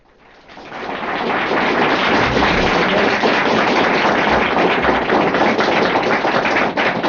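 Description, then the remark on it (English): An audience at a lecture by L. Ron Hubbard, given on 27 March 1962, applauds steadily, the dense patter of many hands swelling in over the first second and holding at a loud, even level without a break. “I won't throw away your applause.”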